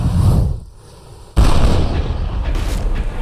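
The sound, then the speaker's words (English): Low booming rumble fades, then a sudden, loud cannon blast erupts, followed by a sustained roar of explosive rumbling and crackling that continues to the end, with no one speaking. “He positioned the pirate boats at the front and the back of the Ganji Sawai to avoid cannon fire.”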